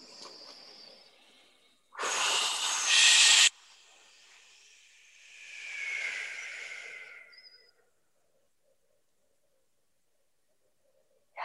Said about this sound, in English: So let's just breathe in and a sigh with the exhale. Maybe a whoosh with the exhale.